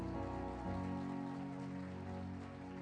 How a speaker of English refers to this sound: Is there anybody else in here that's a first-time guest? Can we give our guests a hand clap this morning?